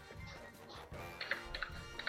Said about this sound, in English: Oh no. He's Googling beans. It. I can hear you typing